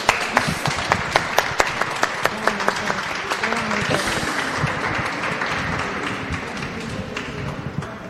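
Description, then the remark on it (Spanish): A crowd applauds steadily during a Radio USAL special for 8M, with sharp individual claps standing out over a dense wash of clapping, loud and sustained throughout; faint voices murmur underneath. “Bueno, y un aplauso grande.”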